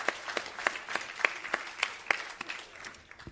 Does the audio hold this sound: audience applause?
yes